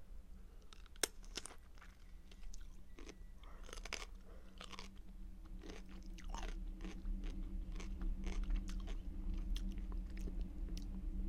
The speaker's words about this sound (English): Oh, I bit into it and the juice came out. It didn't even pierce the skin.